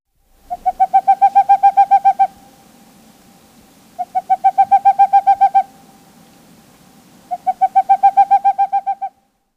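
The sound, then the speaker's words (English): A boreal owl gives three long bursts of rapid, evenly spaced hoots, each lasting about two seconds, with short pauses between them; the calls are loud, over a low background rumble. “Boreal owl.”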